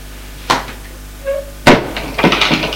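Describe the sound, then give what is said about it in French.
A man opens a double door facing the entrance door of a large semicircular entrance hall: a sharp click or latch at the start, a brief creak, then a heavier thud and shuffling rattle as the panels swing open, with no voices. “L'homme va ouvrir la porte en face de la porte d'entrée. Elle est à double battant.”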